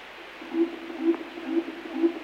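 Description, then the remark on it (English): An artificial heart beating: four steady, evenly spaced mechanical pulses, each a low humming whir, repeating about twice a second over a constant background hiss, with no voices. “could you set your old heart beating, old boy?”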